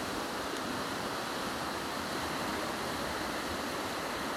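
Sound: flowing river water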